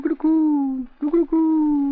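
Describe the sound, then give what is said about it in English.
Two drawn-out, hooting coos from a pigeon, fairly loud, each opening with a short throaty lead-in before a long steady note that slowly falls in pitch. “I've heard hundreds of pigeons that coo like that.”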